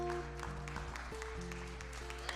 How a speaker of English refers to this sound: That's all right, you can clap. Go ahead.